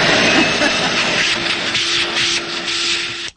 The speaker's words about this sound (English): when she vacuumed in the house, it used to freak me out